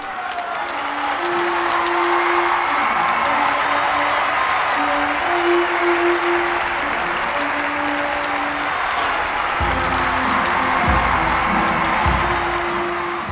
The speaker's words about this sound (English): As Pope Francis appeared at St. Peter's central balcony, a vast crowd in the square below burst into a thunderous applause.